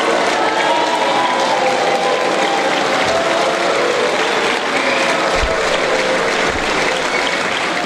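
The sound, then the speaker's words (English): Loud, sustained applause from members of the European Parliament in Brussels as Tsipras enters the chamber, dense clapping filling the chamber steadily for the whole stretch, with a crowd murmur and occasional cheers mixed in. “When he entered the European Parliament, Tsipras was treated like a rock star by many of the members, with loud applause and many red signs that said simply no, indicating their support for last weekend's referendum.”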